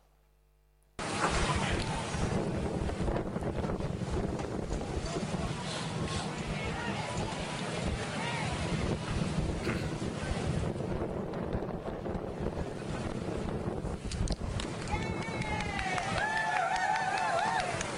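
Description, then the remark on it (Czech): Strong wind roars and buffets the microphone continuously over the sea during the rescue of a shipwrecked man by a ship, with water rushing and a boat's noise beneath, and indistinct voices shouting intermittently through the gusts. “Pustíme si druhé video, tam je vítr a jde vidět, jak a prostě ho zachraňují, že to nebyla úplně sranda.”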